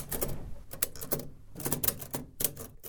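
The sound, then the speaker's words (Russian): Typewriter keys are struck over and over, a series of sharp, fairly loud mechanical clacks in an uneven rhythm, with faint clatter between the hits and no voices. “А вот попробуй, стукни по клавише.”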